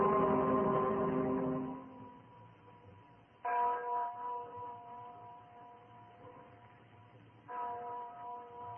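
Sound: bell ringing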